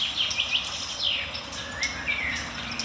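garden warbler alarm calls

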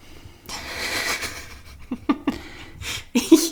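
heavy breathing

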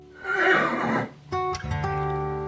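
horse neighing

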